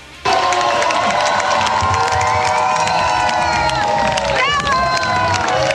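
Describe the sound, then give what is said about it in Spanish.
A large crowd cheers and applauds continuously with loud, dense shouting and whistles, a sustained ovation for the last runner to reach a race finish line in Valdivia, who arrives escorted by ambulances, with a brief rising whistle or call near the end. “quien llegó escoltado por ambulancias y con una ovación del público.”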